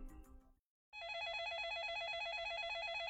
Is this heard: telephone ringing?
yes